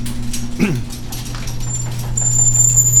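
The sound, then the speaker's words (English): A garage door opening: a steady low mechanical hum runs throughout, broken early by a short descending squeal, with a thin high-pitched whine joining in for the last second. “We open the garage door.”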